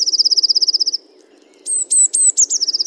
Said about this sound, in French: Alors ça, c'est une petite mésange bleue qui pousse un cri d'énervement. Petits cris d'irritation qui sont poussés quand il y a plusieurs individus qui sont les uns à côté des autres.